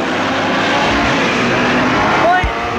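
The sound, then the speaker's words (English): A car engine runs, rumbling steadily as the vehicle is maneuvered by someone trying to park in Parnell Square, with a brief rising whine near the end and indistinct voices in the background. “Yeah, somebody's trying to sort out the parking.”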